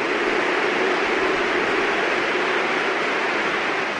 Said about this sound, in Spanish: Vamos a esperar un segundito a escuchar los aplausos también que se va a llevar el mayor de los Williams, que ha notado, ahí están esos gritos de Willy Willy.